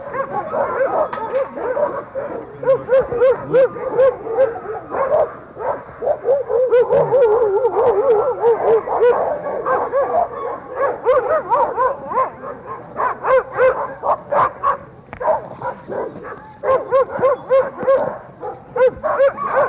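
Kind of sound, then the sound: animal, dog barking and whimpering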